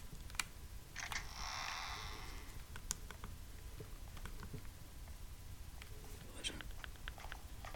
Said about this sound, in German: Gönnt euch diese Schritte, so eine ASMR.